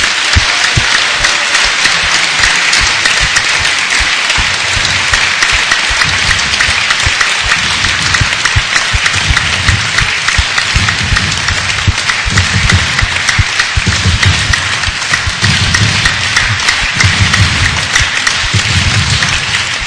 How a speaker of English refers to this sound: I think even at this early part of the tour, we should just give him one big loving applause for all the wonderful service he does.